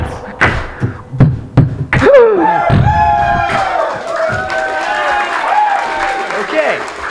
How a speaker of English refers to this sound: So drop all your jaws for a round of applause.